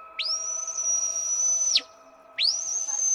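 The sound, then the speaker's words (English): A sheepdog stop whistle: a long, steady, high-pitched blast that swoops up sharply at the start and drops off at the end, followed after a short gap by a second identical blast. “Stop.”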